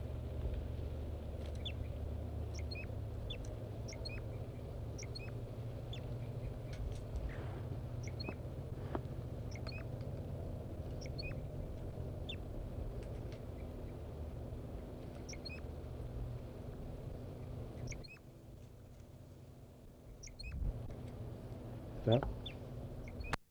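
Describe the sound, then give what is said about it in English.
A wild bird sings in short, thin, high-pitched chirps repeated steadily throughout, from the top of a deciduous tree about 50 to 60 meters away, faint over a constant low rumbling background noise. “4-3 is in song and singing robustly, but it doesn't seem to be affecting the birds.”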